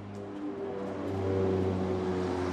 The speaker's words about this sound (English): A UN plane flies over the main demobilization camp in eastern Congo.